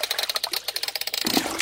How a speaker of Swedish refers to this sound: Och det skvalpar. Är det en hink med vatten? Nej, ingen hink.